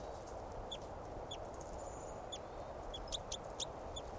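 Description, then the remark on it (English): A small caged decoy bird gives a series of short, high chirping calls, some in quick pairs, quiet, over a steady hiss of outdoor background noise. “Three eight seven calling, and the wild bird's sitting looking at the cones in 387's cage.”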